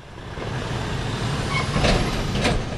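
Delivery trucks with Bud Light and Budweiser logos on their sides idle at the sprawling Hensley & Company warehouses in Phoenix, a steady low diesel rumble, and two short hissing bursts of air brakes cut through near the end. There's no talking, just the busy noise of heavy vehicles.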